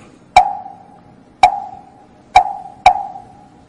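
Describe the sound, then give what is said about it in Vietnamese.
Four sharp, hollow knocks on a Vietnamese wooden temple block (mõ) in a Buddhist temple, struck to open a ceremony, each with a short resonant mid-pitched ring. The strikes come at a slow, uneven pace, the last two closer together, with no voices. “thấy mình thỉnh mỏ là 3 tiếng khởi đầu, thấy không?”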